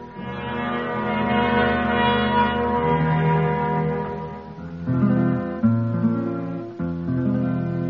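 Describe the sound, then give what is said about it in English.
Large bells in Philadelphia ring out loudly and steadily, their tones layering into a sustained, resonant peal, with fresh strikes sounding near the end. No one speaks. “And a bell in Philadelphia told what the war was for.”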